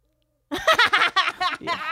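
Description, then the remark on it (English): A voice imitates an owl, giving four or five quick, warbling hoots in a row, fairly loud, after a brief moment of silence. “Is that an owl? Yeah, it's a skeptical owl.”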